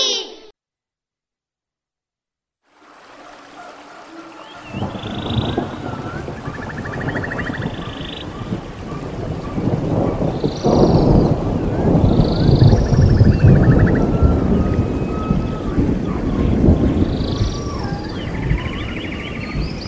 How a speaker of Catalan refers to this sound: Sentien el so dels ocells, de les branques dels arbres quan feia vent, el so de l'aigua de la pluja, el so de l'aigua dels rius i dels torrents.